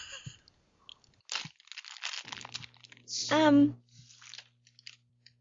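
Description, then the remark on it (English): Loud crunching of someone chewing crisps, with bursts of crinkling wrapper, briefly joined by a voice-like tonal sweep in the middle. “Leo's just behind her chewing chips really loudly.”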